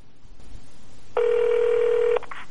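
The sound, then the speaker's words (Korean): A single steady electronic telephone ring tone sounds for about a second over faint line hiss, clear, as if heard through the handset while a call to a fellow North Korean defector connects. “일단 실업급여가 있다는 걸 알려준 동료 탈북자에게 전화를 해서 물어보기로 합니다.”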